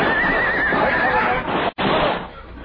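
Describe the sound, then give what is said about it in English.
A horse lets out a loud whinny with a wavering, trembling pitch, broken briefly by a sharp cut in the sound before a rougher, noisy tail continues, as horses go down under rifle fire on a canyon floor. “Our horses went down, and the six of us were trapped on the canyon floor.”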